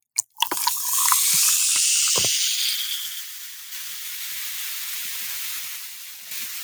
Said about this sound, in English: one of the top 10 sounds on the planet, I would say, is the pop crack fizzle of a soda